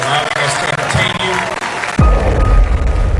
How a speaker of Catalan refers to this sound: Va ser una ovació espectacular. No, i tenia, evidentment, en aquest aplaudiment hi havia un component d'acomiadament perquè són 8 pel·lícules.